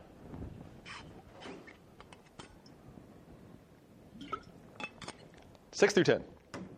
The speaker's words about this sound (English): Let me drink a water real quick.